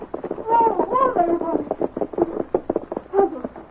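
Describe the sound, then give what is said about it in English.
Hoofbeats clop along as a horse slows to a halt outside, the knocks spacing out toward the end, with a whinny-like tonal sound over them and no one talking. “And as he heard a horse stopping outside, he went to the door.”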